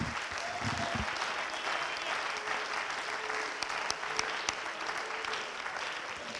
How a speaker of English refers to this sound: In the mighty name of the Lord Jesus, can we give God another hand clap of praise? Come on, let's thank him for his word right now.